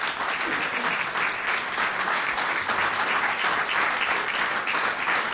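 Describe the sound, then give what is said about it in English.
A crowd in Chicago applauds steadily and loudly, a dense wash of many hands clapping at once that holds at the same level throughout without a break. “What a marvelous crowd of Chicago's finest here.”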